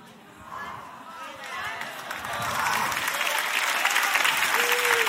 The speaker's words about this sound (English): I love preaching to y'all. And you know why y'all are shouting over an anatomy lesson? Because God's been touching your tendon.